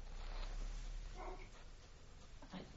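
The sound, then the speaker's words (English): A dog barks faintly, a few muffled yaps over a low background hum with no talking. “Do you need to sort the dog?”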